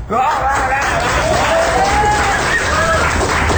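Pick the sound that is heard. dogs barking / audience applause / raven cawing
audience applause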